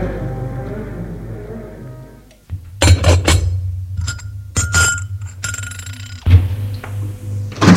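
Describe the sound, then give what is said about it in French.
Teacups and saucers clink lightly several times as tea is taken in a salon, with soft scraping and a low background hum between the delicate porcelain taps. “Il est au salon à prendre le thé avec son père.”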